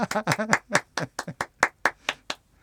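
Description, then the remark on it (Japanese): A dozen or so sharp hand claps at a fairly steady, slightly uneven pace, with a brief murmur of voice under the first few. “ちょっとこう拍手。”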